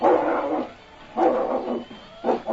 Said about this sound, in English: Listen to that cur.